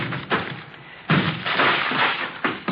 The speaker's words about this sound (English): Yeah, Lieutenant. Breaking down the door. Good.